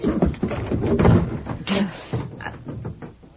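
A door is rattled and banged several times in quick, uneven succession, with loud thuds and clatter spread across a few seconds.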